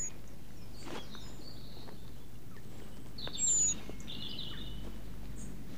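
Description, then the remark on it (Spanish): A great tit, half hidden among leaves, gives a high-pitched general alarm call: a brief, thin, very high note rings out once, with a few fainter high chirps around it over a low, steady outdoor background hiss. “Por ejemplo, este sonido es un toque de alerta general. Es corto y tiene una frecuencia muy alta.”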